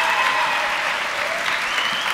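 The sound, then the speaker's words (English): A crowd applauds a woman, a steady, dense, even wash of clapping hands that stays loud and sustained throughout without voices standing out. “Give this lady a round of applause.”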